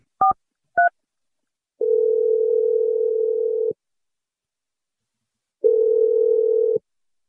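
Two quick keypad dialing beeps as a radio show dials a man's phone number, then a steady telephone ringback tone that buzzes for about two seconds, falls silent, and rings again. Clear, with no voices.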